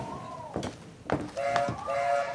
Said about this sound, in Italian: Lo senti il treno? Ci sta già aspettando.